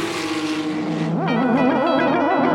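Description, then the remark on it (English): A loud race car engine roars, its whining pitch holding steady, then rising and falling in quick waves as it revs, with a squealing edge and no voices. “Paul Newman had his race cars.”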